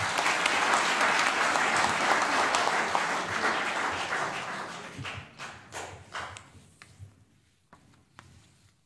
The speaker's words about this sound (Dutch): Weer een daverend applaus.